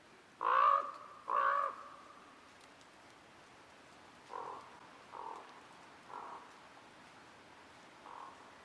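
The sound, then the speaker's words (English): A common raven calls with two loud, harsh croaks close together, then four softer croaks spaced out over the following seconds, with no voices. “This is the common raven, also known as my dad's ringtone.”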